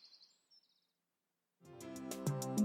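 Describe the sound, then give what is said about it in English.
A peregrine falcon gives a quick run of sharp, high-pitched cries right at the start, brief and fairly faint, before a loud, rich, low-pitched tonal sound takes over. “Peregrine falcon.”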